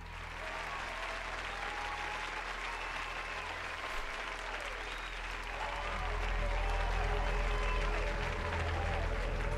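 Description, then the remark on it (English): An audience applauds steadily for the whole stretch, a dense wash of clapping that swells a little louder toward the end, with faint crowd voices mixed underneath. “They're applauding because I thought about not smoking so much weed before.”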